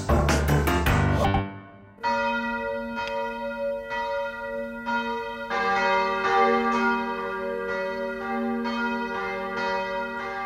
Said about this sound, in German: Das sind die Glocken von der Steinkirche in Schaffhausen und sie läuten das heutige Forum ein.